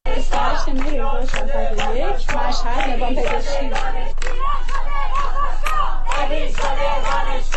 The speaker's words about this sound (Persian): خبرها حاکی از این است که تظاهرات دانشجویی نیز در روز پنجشنبه در بیشتر دانشگاه ایران ادامه یافت و در ادامه گروهی از معترضان در مقابل اداره نظام پزشکی مشهد تجمع کردند.